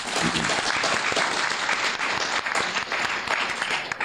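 audience applause

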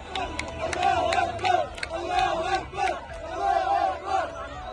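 crowds cheering

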